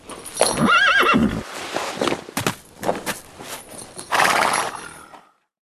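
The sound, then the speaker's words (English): Prince Philip's horse whinnies loudly, its wavering neigh rising and falling, followed by a few heavy hoof clops and shuffling steps as he hops off it, before the sound cuts off. “Philip didn't know that Briar Rose was a princess either, but he was so taken with her beautiful song, he hopped off his horse.”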